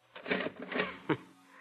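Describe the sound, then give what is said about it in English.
A cash register rings up a sale: a run of rattling mechanical clatters followed by a single sharp clack, with no voices. “The paper said you only had $15 in your cash register when that kid held you up.”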